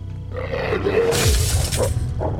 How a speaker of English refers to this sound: He drops the lantern.